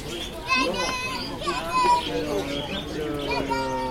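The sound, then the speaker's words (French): Many small birds chirp and twitter nonstop in a shop that sells birds, their overlapping high calls filling the space, with faint voices murmuring underneath. “Mais ils vendent des oiseaux là-bas? En montre, il y a des oiseaux.”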